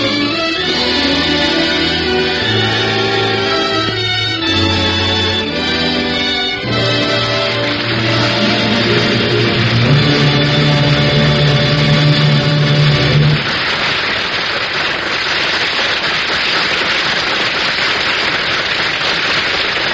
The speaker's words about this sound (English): Ladies and gentlemen, the audience here in NBC's Studio 6A in New York City have been applauding the Ford Theater's presentation of A Star is Born.